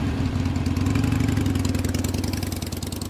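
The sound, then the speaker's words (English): A motorcycle engine idles with a steady, rapid chugging throb that swells slightly as if being revved, running loud and continuous with no voices. “I'm really good at riding motorcycles, so Scrappertown isn't far from here.”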